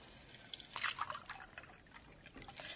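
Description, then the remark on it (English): Water splashes and trickles into a glass for a couple of seconds, a bright liquid pour with small drips, fairly quiet overall and with no one speaking. “you want some water?”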